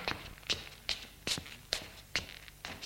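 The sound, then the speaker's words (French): Steady footsteps of three people walking along a first-floor corridor, about seven sharp, clicking steps at an even walking pace, moderately loud with no voices. “Suivent un couloir.”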